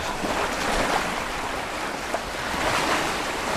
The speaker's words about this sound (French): Malin Head, des falaises fouettées par les vents et déchiquetées par les vagues furieuses de l'Atlantique. C'est le point le plus au nord de l'Irlande.